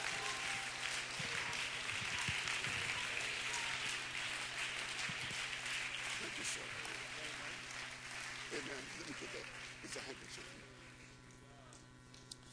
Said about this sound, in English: Somebody clap their hands unto the Lord in Jesus' name.